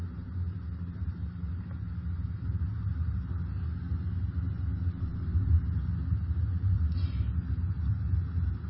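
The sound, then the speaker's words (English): Soft, steady rain hiss of a rainstorm with a low, continuous rumble of thunder underneath, played at a very low volume throughout without any voices. “Probably hear rain and thunder at a very light volume.”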